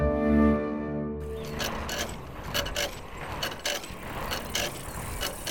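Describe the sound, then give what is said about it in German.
The Sandmännchen's scooter rolls along: a low, steady humming tone opens briefly, then gives way to continuous rattling and clicking mechanical noise at a moderate level, with no voices. “Mit dem Roller.”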